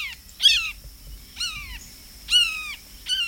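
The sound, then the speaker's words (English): A bird mimicking a red-shouldered hawk, a bird of prey, gives four loud, harsh, downward-slurring screams spaced about a second apart, over a faint low background rumble with no talking. “Rattles. And astute mimicry of birds of prey, such as the red-shouldered hawk.”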